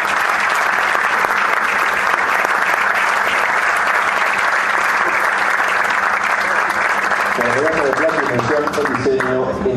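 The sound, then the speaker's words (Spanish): A sustained burst of loud audience applause at an awards ceremony for a distinction given to Agrometal, dense, steady clapping from many hands lasting several seconds, with a man's voice starting to speak over it near the end as it continues. “Un aplauso para él.”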